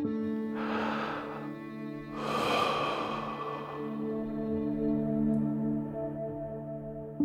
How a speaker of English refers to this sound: One thing that you might have heard a lot of is this idea of doing some deep breathing, and there is some value to doing that, which is to slowing down the way you breathe and really making sure you're breathing from your abdomen